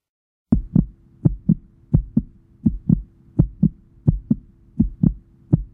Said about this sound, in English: This is a heartbeat. It's quick.